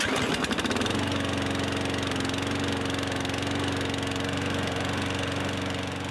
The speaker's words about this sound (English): Sound effect one. One of your next-door neighbours mows the lawn.